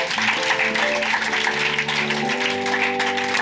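A crowd applauds the under-15-year-olds steadily for a few seconds, a dense, even wash of clapping, with sustained musical chords ringing underneath throughout.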